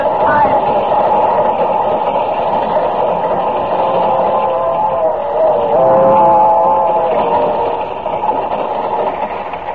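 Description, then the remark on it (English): A train rumbles loudly and steadily across a bridge for about ten seconds, a dense mechanical roar with a droning, slightly shifting tone running through it and no let-up. “I've got to hold up that bridge until the train passes over it.”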